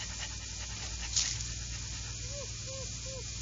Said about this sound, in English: Holmes led Toby over to the water barrel. Immediately the dog's nose was on the ground and his tail in the air, and he pattered off on the trail, straining at his leash.